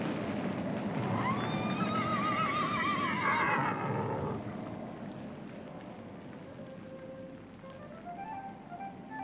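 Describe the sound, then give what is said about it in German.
A horse from a horse dealer's team, standing below a window, gives one loud, quavering whinny lasting several seconds, then fades into a quieter outdoor background with faint scattered noises and no talking. “Pferde? Wo sind sie? Hier. Ihr seht sie vom Fenster unten stehen.”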